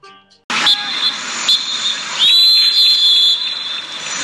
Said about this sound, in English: Oh, referee. Blow the whistle.